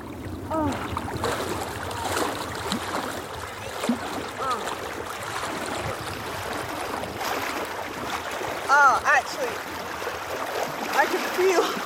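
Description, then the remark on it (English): A swimmer on a wild swim moves through a river whose water comes from the Cairngorm Mountains, with steady splashing and sloshing, a continuous churn of flowing water, and brief faint voices surfacing now and then. “My skin is tingling, but in the nicest possible way, and I never ever regret going into the water.”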